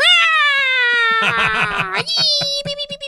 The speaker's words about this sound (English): That was our research of the Jersey Devil. I swear to God, it's Jersey Devil. What do you think the shriek sounds like?